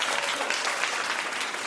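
audience applause

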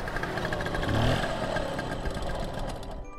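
scooter engine running

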